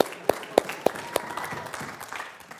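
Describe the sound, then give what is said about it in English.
A church audience claps together after a Bible verse is read during a sword drill, opening with four evenly spaced, sharp unison claps before dissolving into softer, scattered applause. “That's right. Everybody clap.”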